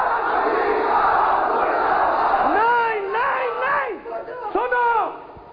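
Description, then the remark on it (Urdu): A large crowd roars steadily, then loud voices rise above it, chanting anti-American slogans of "Murdabad" ("death to") in long drawn-out shouts that swell and fall in pitch, repeating in a rough rhythm. “سنو، نعرہ زندہ ہے اور تیری تباہی تک یہ نعرہ لگتا رہے گا.”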